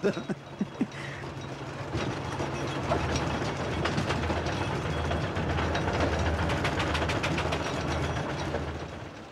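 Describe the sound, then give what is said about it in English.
A steam traction engine rumbles along the road, its steady clanking and rhythmic mechanical chugging loud and continuous after a few sharp knocks at the start, with no voices. “You've got to have a very good wife if you have a steam engine that understands, you know.”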